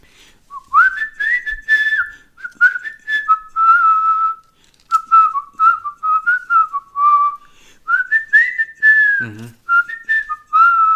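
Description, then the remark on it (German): Someone whistles a tune with clear, sustained pitched notes that glide up and down in a flowing melodic line, fairly loud, with brief pauses between phrases and no talking. “Eh gut pfiffen, aber natürlich.”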